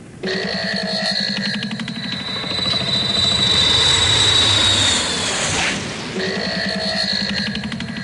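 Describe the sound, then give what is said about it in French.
An airplane engine being warmed up drones steadily and loudly, its pitch climbing slightly as it revs, then a brief rushing surge before the engine settles back into a constant hum. “La Tex, tu fais chauffer l'avion, s'il te plaît?”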